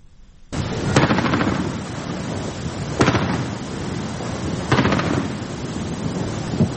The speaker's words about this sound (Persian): خبرگزاری‌های ایران از شلیک پدافند هوایی مستقر در منطقه انقلاب تهران به سمت یک پهپاد خبر دادند.